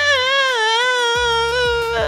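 A child screams in one long, high-pitched, wavering wail that holds steady for about two seconds, while low rhythmic thumps start up underneath partway through.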